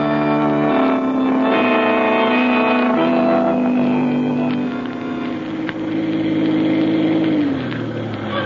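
A car engine drones loudly and steadily throughout, its pitch shifting as it drives, then dropping near the end as it slows to park above the entrance to a prison at the bottom of a hill. No one speaks.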